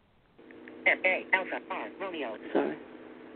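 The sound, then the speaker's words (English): A phone's accessibility voice for blind users chatters for about three seconds, thin and tinny through a small speaker, a quick burst of synthetic-sounding speech with no other talk over it. “No, it's my damn phone for the, you know, it does the for the blind. I have to shut it off.”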